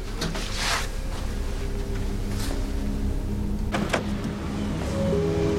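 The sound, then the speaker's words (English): Sergeant Brody, in uniform, climbs out of his car in a car park: a few short clunks and rustling bursts over a steady low mechanical hum, with a brief whirring motor sound and no one speaking. “Brody, in uniform, climbs out of his car and puts on his garrison cap as he strides away across a car park.”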